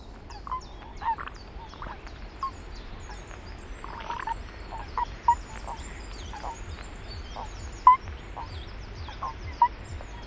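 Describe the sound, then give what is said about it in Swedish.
Toads calling in repeated short, yelping notes scattered over ten seconds, some louder, with a dense chorus of fainter calls and a low rumble underneath. “Ska vi lyssna på paddan också då?”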